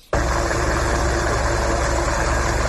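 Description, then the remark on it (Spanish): The Pesca 1 rescue helicopter's steady, loud engine roar cuts in abruptly and holds constant, with a low throbbing hum beneath a broad hiss of rotor wash, during a sea rescue drill in the waters off Bayona in the Ría de Vigo, with a specialist lowered from it. No voices are heard. “Otro sonido del fin de semana, el del helicóptero Pesca 1 haciendo un simulacro de rescate en aguas de Bayona, la ría de Vigo.”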